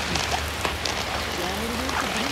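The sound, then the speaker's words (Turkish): Steady heavy rain pours down in a dense, continuous hiss, with scattered drops tapping on surfaces and a faint voice murmuring briefly underneath. “Evet, tam evet, şu an yağmurumuz hızlandı. Duyuyorsunuz sesini.”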